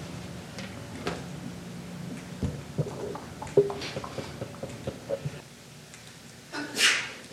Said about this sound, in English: Bless you.